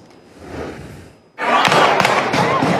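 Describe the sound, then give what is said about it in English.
After a second of low, muffled background noise, a loud burst of gunfire erupts at a high school graduation on the campus of Virginia Commonwealth University in Richmond: several sharp, rapid shots cracking close together over a dense wash of noise. “Gunfire erupting on the campus of Virginia Commonwealth University, just moments after students from Richmond's Huguenot High School held”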